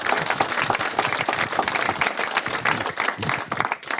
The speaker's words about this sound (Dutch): Dus jongens, nogmaals enorm applaus voor al deze mensen die het mogelijk hebben gemaakt. En de regisseurs die gespeeld hebben.